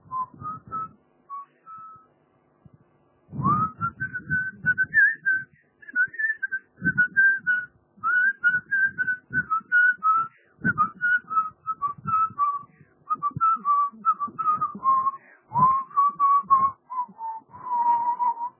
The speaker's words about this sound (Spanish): Yo estoy sacando, pues, voy a sacar un silbido. Hoy te voy a hacer un silbido.